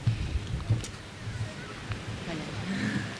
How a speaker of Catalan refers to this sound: Fa molt de vent.